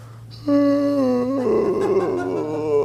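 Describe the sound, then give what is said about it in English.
A person lets out a deliberate, drawn-out voiced yawn, fairly loud. It starts on a steady tone, then turns breathy and wavering as it trails off over a low background hum. “Yawning, sighing, tired.”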